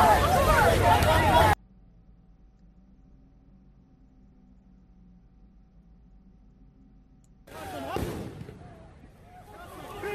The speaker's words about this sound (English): That's the police throwing tear gas at them to disperse the crowd. That's the police trying to disperse the crowd down there.